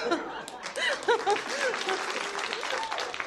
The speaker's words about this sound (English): You lot applaud.